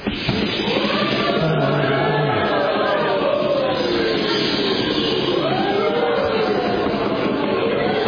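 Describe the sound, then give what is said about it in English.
A group of voices playing sailors on a boat imitates a storm, making loud, sustained whooshing and wailing noises with rising and falling pitch, a dense, continuous wall of wind and wave sounds lasting several seconds. “You can be, you're the sailors, you're on the boat, you can make all kinds of noise, you can make noise like the wind, the waves, you can go, oh, no, you can, whatever you want.”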